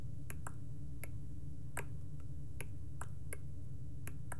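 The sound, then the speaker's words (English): About ten crisp water drips land at uneven intervals, overlapping rhythms from several sources, over a steady low rumble with no voices. “So now think in other environments that now you have drips combined together, different rhythms.”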